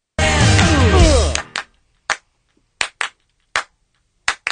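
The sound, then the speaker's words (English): After a brief loud burst of music, sharp hand claps follow, several landing in quick pairs as double claps, crisp and fairly loud against silence, on the Kevin and Bean Show. “You got that double clap down, man.”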